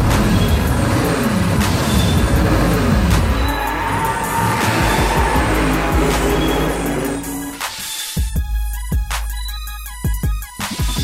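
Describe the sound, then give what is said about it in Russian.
A racing car roars, its engine climbing through rising and falling revs with tire squeal mixed in, then breaking into sharper, choppier bursts near the end. No one speaks. “10 секунд, пока мы мчимся, я свободен.”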